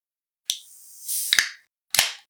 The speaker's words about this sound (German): Genau, jetzt reiß auf die Kanne.